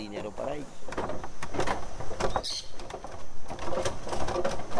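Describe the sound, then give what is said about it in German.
A wooden suspension bridge creaks and groans in irregular bursts under footsteps, steady throughout, as hikers cross it arriving at base camp 1 after a 4-hour, 7-kilometre trek, with some faint voices or outdoor noise in the background. “Nach 4 Stunden kommen wir über eine knarrende Hängebrücke im Basiscamp 1 an.”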